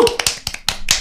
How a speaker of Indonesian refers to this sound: Oke, tepuk tangan dong.